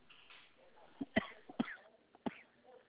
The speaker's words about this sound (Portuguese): Ai, meu Deus. Só me falta a tosse agora.